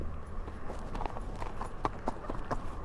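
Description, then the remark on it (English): Steady clip-clop of a horse's hooves as it is walked along a hard tarmac road, a regular rhythm of sharp knocks over a low rumbling background, with no voices. “They don't go too fast if they see horses.”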